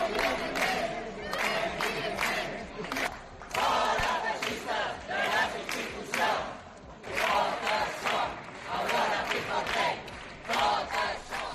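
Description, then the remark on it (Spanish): A crowd of voices shouts and chants together in loud, rhythmic bursts, rising and falling in waves with brief dips between outcries: protesters in a parliament demanding the resignation of the parliament's president, joined by Socialist and Més deputies shouting against Lesén and Proença. “Los diputados socialistas y Demés se han unido a los gritos no solo contra Lesén, sino también contra Proença.”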